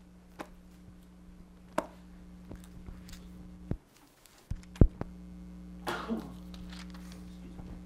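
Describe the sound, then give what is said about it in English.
A single sneeze bursts out as a short, breathy, hissing blast over a steady low electrical hum, with a few sharp clicks and knocks scattered before it. No one speaks. “Bless you.”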